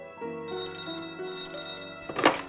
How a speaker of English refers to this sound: Dr. Thomas Durant of nearby Westbourne Terrace is woken by a phone call from one of his patients.